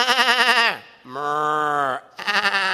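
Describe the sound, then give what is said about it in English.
Three loud sheep bleats follow one another, the first and last quavering and wavering, the middle one a steadier, lower-pitched baa, with no one speaking. “But Samuel said, what then is this bleating of sheep in my ears?”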